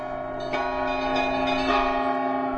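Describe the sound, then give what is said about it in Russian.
A church bell of the Astrakhan Kremlin rings with a rich, sustained hum, struck again about every second so fresh clangs bloom over the lingering tone, calling residents of Astrakhan to the evening service; steady, with no voices. “Колокол созвонится Кремля, зовет астраханцев на вечернюю службу.”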